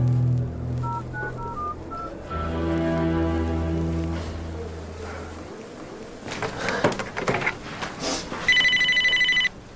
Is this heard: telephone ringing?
yes